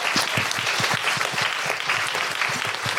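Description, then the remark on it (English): Steady, dense clapping from a crowd applauding the lighting technician in the lighting booth fills the whole clip, a loud continuous patter of many hands with quick sharp claps overlapping, no voices standing out. “A big round of applause for Amy in the lighting booth.”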